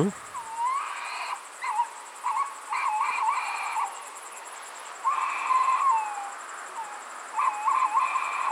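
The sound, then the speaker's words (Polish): A male tawny owl answers a female, hooting in several wavering, tremulous phrases separated by short pauses. It is heard alone, subdued rather than loud, and sounds hesitant. “O, proszę bardzo, a zaraz później odzywał się samiec. Nie tak samo donośnie, tylko jakby taki trochę zbity z tropu, taki niepewny siebie.”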